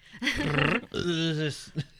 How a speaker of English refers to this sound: I got a burp.